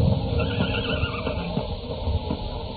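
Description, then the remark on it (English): A horse neighs, a drawn-out, fairly loud whinny over a dense, rumbling background with no one speaking, out on rocky ground as a storm approaches. “Dwarfed by the landscape and buffeted by the approaching storm, the boy struggles over rocky ledges in answer to a familiar sound.”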